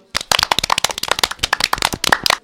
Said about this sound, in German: Applaus hebt die Stimmung.